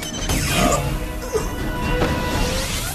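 A sci-fi sound effect of the Gzat gun firing: loud, dense crashing blasts with sweeping, zapping tones that rise and fall over about three seconds, with a few sharper bursts standing out.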